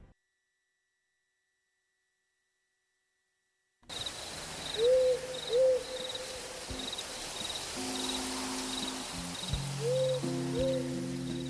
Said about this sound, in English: Do you know about the burrowing owl? Well, it's a species of owl that lives in underground dugouts or holes in California.